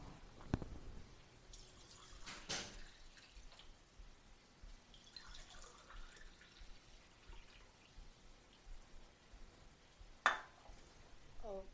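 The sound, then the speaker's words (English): Quiet, steady bubbling and hissing of water coming to a boil, with a few sharper clinks and splashy bursts scattered through, and no voices. “Our water is boiling.”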